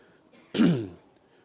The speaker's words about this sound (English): I might cough a few times. One of the benefits of having COVID, as bad as it is that when you get a head cold up in here for a week, you're not terrified to be around people. So bear with me.